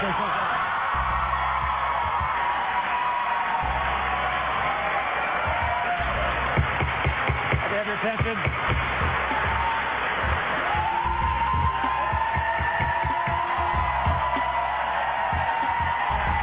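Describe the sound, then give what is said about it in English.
Legislators in the New York State Senate cheer and whoop loudly and continuously after the chamber passes same-sex marriage rights by a vote of 33-29, voices overlapping in a sustained roar, with repeated sharp knocks of the presiding officer's gavel cutting through midway. “The gavel of the presiding officer, no match for the cheers in the New York State Senate.”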